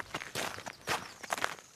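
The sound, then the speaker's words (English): Quick, uneven footsteps of children running to eat, a patter of fairly loud steps crowding together over a couple of seconds, with no talking. “The kids come running to eat.”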